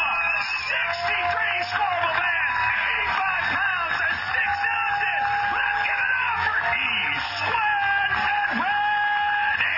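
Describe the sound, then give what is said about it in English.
A large crowd cheers and whoops without pause at a Major League Fishing postgame show as the champion angler comes up on stage, a dense wall of overlapping shouts and high yells that stays loud and steady from start to finish. “And when all the scales had settled and the day was over, it was time for an appreciative crowd to crown their champion.”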